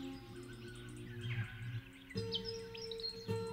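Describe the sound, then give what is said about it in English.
Instrumental music composed from notated bird songs and following the birds' melodies: sustained low tones under quick, high chirping figures that mimic birdsong, shifting chords twice in a short passage with no voices. “bird calls feature so heavily in the piece of music you're hearing now”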